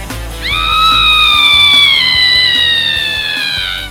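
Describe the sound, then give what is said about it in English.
A woman's loud, piercing scream holds one high note for over three seconds, sliding slightly lower toward the end, over a faint low rumble with no talking. It is a sound effect played for a Halloween segment on favourite horror-film Scream Queens. “I'm glad you did that with the sound effects, because I was going to do it, and I saw you pick it up.”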